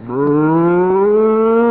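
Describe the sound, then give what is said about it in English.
A single cow, Bossy, moos in one long, steady, slightly rising bellow in a barn during the morning milking, loud, with no talking over it. “I've been milking this cow for 3 months, and I think I can manage.”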